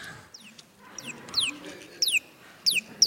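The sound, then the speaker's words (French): A bird calls in quick, sharp descending chirps, repeated in short bursts a few times, clear over a faint background murmur. “Des fois, quand je ne sais pas très bien, je vais demander à l'oiseau.”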